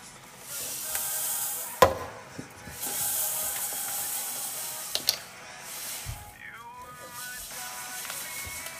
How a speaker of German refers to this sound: Mit einem Schneebesen kurz umrühren, damit alle Chiasamen mit Flüssigkeit bedeckt sind.